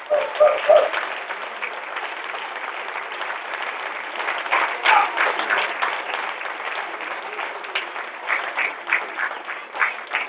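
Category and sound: crowd, audience applause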